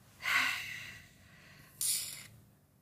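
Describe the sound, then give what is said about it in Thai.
A breathy, airy exhale through the mouth during a deep-breathing exercise swells and slowly fades, followed a moment later by a second, shorter rush of breath. It is soft and hissing, with no talking. “เราหายใจเข้าลึกออกยาวพร้อมกัน3ครั้งนะคะหายใจเข้าค่ะแล้วก็ผ่อนออกทางปากเนาะหายใจเข้าลึกค่ะแล้วก็ค่อยๆผ่อนออกนะคะ”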